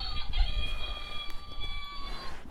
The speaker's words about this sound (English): Ooh, that's what the hen does, isn't it? Cluck, cluck, cluck, cluck, cluck, cluck, cluck, cluck, cluck.